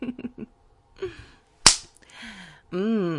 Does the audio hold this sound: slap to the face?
yes